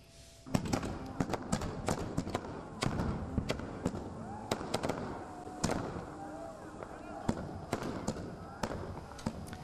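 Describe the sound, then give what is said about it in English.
Fireworks explode in the sky in Iran during celebrations of the 37th anniversary of the Islamic Revolution, in a rapid, irregular barrage of sharp bangs and crackles, some loud, others softer, with faint voices audible in the background. “As in each year, fireworks lit up the sky and people went onto roofs and chanted Allahu Akbar, or God is the greatest.”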